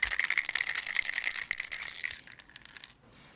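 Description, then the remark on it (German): A spray paint can shaken hard, its mixing ball rattling in a rapid, steady metallic clatter for about two seconds before the shaking slows and fades to a few lighter clicks. “Das ist nämlich eine Spraydose”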